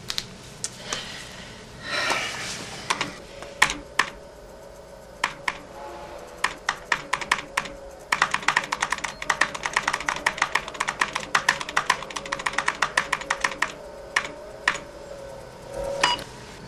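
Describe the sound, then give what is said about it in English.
Rapid clicking of keys on a computer keyboard, starting in short bursts then settling into fast, steady typing, with a faint low hum underneath and no one speaking. “Just use the keyboard.”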